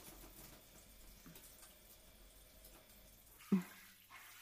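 Soft, steady hiss of shower water running for a few seconds to rinse a head during a hair wash, fairly quiet, ending with a sudden knock as the flow stops. No voices.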